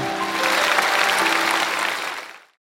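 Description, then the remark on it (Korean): A church audience breaks into steady applause to encourage the children who sang in worship, a dense wash of many hands clapping at an even loudness for about two seconds before quickly fading out. “우리 아가들도 너무 찬양 잘했는데 큰 박수로 한번 격려해 주시겠습니다.”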